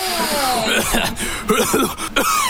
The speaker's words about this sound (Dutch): Vapen op mijn fatbike, vapen op mijn fatbike. Hoest de longen uit mijn lijf, door dat vapen op mijn fatbike.